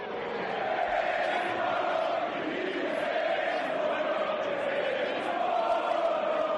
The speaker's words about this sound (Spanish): Bueno, seguramente que lo que te suene sea el caso Vinicius. Acaba de escuchar cómo le gritaban al jugador del Madrid, cómo le llamaban mono.